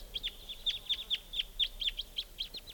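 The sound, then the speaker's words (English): A flock of wild type 2 crossbills, joined by another flock, gives a steady stream of short, sharp, high-pitched kip calls, overlapping and repeating rapidly at a moderate volume with no talking. “And there's a flock of type 2s here.”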